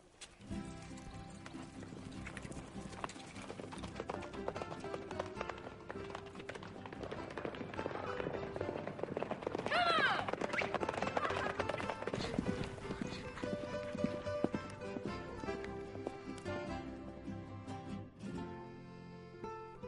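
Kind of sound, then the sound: animal, horse hooves clip-clopping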